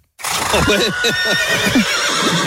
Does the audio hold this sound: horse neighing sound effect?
yes